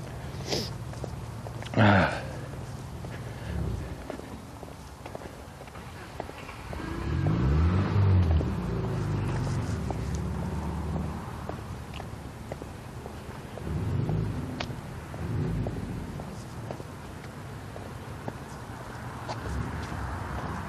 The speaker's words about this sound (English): A lot of traffic this morning. Not exactly sure why